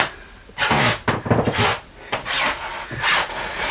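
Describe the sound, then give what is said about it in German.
Wooden floorboards creak underfoot in a series of drawn-out, rasping groans, several strained squeaks rising and falling over a few seconds with no talking. “Oh Gott, ob das später in unserem Haus auch so sein wird, dass man das so knarren hört, dass die Leute, die unter uns sind, immer hören, wenn du da oben”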